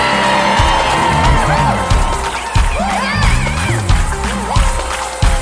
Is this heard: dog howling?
no